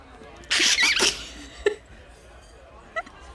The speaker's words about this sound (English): I was lapping the ale for those who want to know. I think you need to lap into your mug for a sound effect.